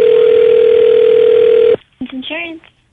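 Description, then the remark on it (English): A loud, steady telephone line tone drones for nearly two seconds as a call is placed to an insurance company to book Pennywise the Clown, then cuts off abruptly and a person begins speaking. “So this time we're calling insurance companies and we're trying to book Pennywise the Clown.”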